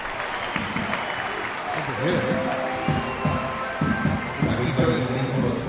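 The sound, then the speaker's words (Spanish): A broad wash of stadium crowd applause and ovation for a player being substituted off during a football match, steady and fairly loud, while a commentator's voice talks over it. “Esta es la ovación.”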